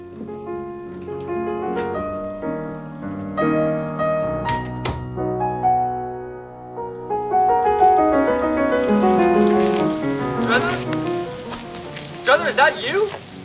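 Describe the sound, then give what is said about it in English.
Steady rain hisses outdoors at midnight, rising to a dense patter in the second half, with tonal music playing over it and a few sharper splashes near the end. “Get yourself out of the rain.”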